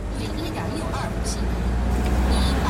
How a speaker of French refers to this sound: Là, nous sommes dans le bus qui nous conduit à la centrale Fukushima Daiichi, qui se trouve à quelques 220 km de Tokyo. Donc il faut traverser plusieurs villages.